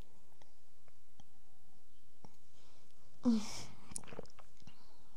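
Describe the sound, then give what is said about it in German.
Soft mouth sounds of someone sipping a drink: a brief airy slurp partway through, then a few small wet clicks and a swallow, with no talking. “Ich muss mal kurz einen Schluck trinken.”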